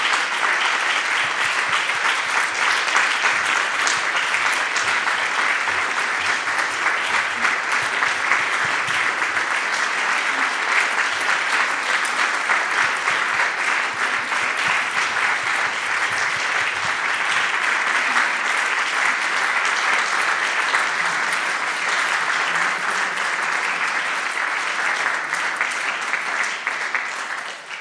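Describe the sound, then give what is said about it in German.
Sustained applause from a large audience at a festival for the organizing team brought onto the stage, steady and loud for nearly half a minute, a dense wash of clapping with no pauses, fading only at the very end. “Es sind die Leute, die seit Monaten im Büro mit uns zusammen das Festival organisieren, die ich gerne an dieser Stelle auf die Bühne holen möchte, bitte, um Ihnen einen Applaus zu gewähren.”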